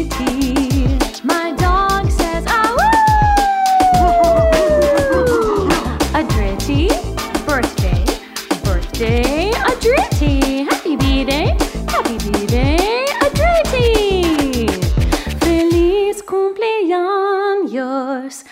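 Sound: dog howling and barking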